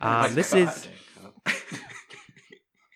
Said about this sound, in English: As my son coughs his lungs out, I'll introduce what we're watching.